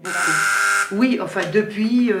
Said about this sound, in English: is buzzing people in the door while she works two phones.